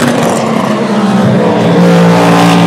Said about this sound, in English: Yeah, doesn't the Valkyrie sound beautiful? It sings. Is it the only V12 running at the circuit? There goes Robin Kubica's Ferrari, followed by the Genesis! Hooray! That's the first time I've seen the Magma Genesis car on track.